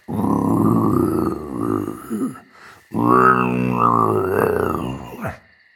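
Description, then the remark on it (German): A voice imitates a tiger growling: two long, loud, rough growls separated by a brief pause, with no other talk. “Und gefährlichen Tigern mit scharfen Krallen.”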